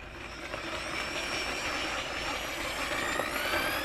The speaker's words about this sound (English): Ken wields a drill half his height. He's standing over it like he would a jackhammer, and he's drilling down through the ice.